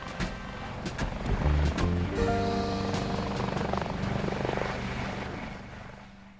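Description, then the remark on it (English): A blue helicopter's engine whines and rises in pitch as it spools up, with a steady low rumble and rotor throb underneath. It is fairly loud, with no voices. “Next to him, a pair of smart-looking German investors in sunglasses smiled for the cameras, prepared to follow Baldor inside the helicopter.”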